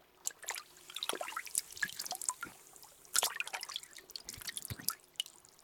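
Hot spring water is poured over an ear, a steady run of wet drips and splashes in irregular clusters with a sharp burst near the middle. There are no voices.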